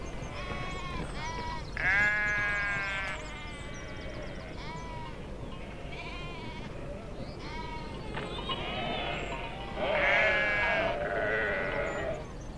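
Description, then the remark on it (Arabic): Several sheep bleat repeatedly, with wavering cries overlapping one another amid a murmur of farmyard background noise and some voices. “هيا دعي الأغنام وشأنها.”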